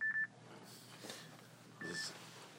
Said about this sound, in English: that's my Shabbos alarm.